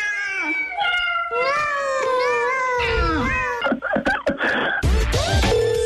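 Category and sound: animal, cats meowing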